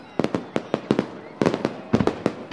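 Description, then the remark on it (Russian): A rapid string of sharp fireworks salute bangs, about a dozen crackling bursts in quick, uneven succession with short pauses between volleys, moderately loud. “И для третьего класса это батареи салютов, ракеты, римские свечи, фестивальные шары.”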